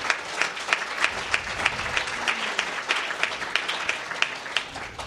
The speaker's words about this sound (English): So please give Liz a round of applause.